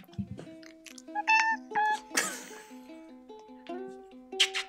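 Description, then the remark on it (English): A cat gives a couple of short meows over a soft, steady background, followed by a brief rustling burst. “Kitty, do you want to say bye? Come here. Say bye.”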